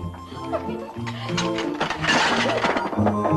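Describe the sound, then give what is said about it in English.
Two teacups tumble off a kitchen table as a woman sets them down and smash, a loud crash of breaking china with clinking shards, set against steady background music. “As she sets them down, two teacups tumble off.”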